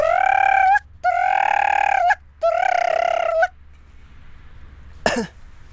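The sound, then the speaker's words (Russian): A person's voice imitates the call of a joyful loon: three long, wavering, nasal cries in quick succession, loud, followed after a pause by a brief breathy gasp. “А когда гагара радуется, она кричит вот так.”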